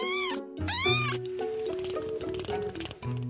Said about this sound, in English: I'm here in the studio with my foster kittens. Say hi!